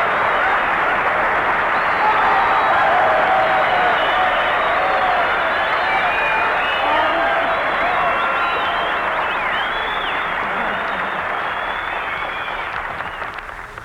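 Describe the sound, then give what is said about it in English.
Sustained, dense applause from a large audience, a steady wash of many hands clapping at once that holds loud for about twelve seconds before starting to taper off, greeting screen actress Virginia Bruce as she takes a bow. “You know, Virginia, you got more applause than I did.”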